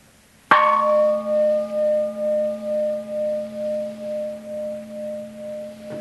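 A single gong strike followed by a long, sustained ringing tone that slowly pulses and fades, heard alone with no voices.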